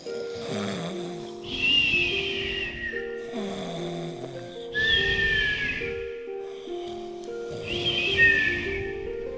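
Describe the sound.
A person imitates with their voice a creature snoring in its cave: three long, rasping snores in a slow, steady rhythm, each with a whistling edge, fairly loud with no talking.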